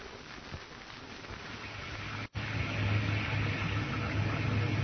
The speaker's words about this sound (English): Ain't it nice in here, Ma? Here in the wind and the rain. Us in here safe and cozy.